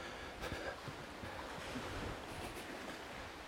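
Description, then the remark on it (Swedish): Steady, broad rushing of sea surf washing against the shore below a steep slope, with faint surges and some wind buffeting the microphone, fairly loud and continuous with no voices. “Det ligger ganska brant upp här mot havet med en fantastisk utsikt.”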